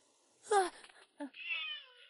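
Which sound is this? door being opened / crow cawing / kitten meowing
kitten meowing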